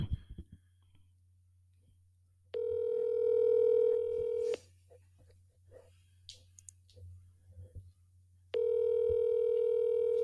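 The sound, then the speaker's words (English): A phone call to a man rings out through the earpiece: two long electronic ringback tones separated by a pause, with no one picking up, over a low steady hum and faint background noise. “He never answers his phone.”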